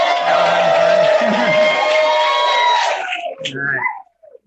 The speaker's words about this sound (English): Everybody give a big cheer for the conference.